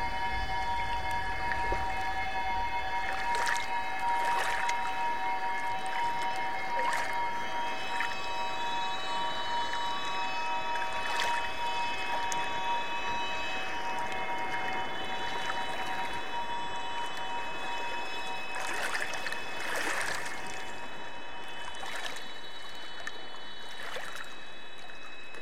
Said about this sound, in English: where the waves splash, hitting again and again.